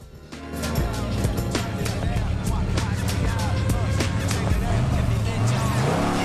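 The loud engine of a souped-up car blaring rap music at a junction on a small-town street rumbles, then roars as the car accelerates away, its pitch climbing toward the end, with a dense, busy layer of noise around it.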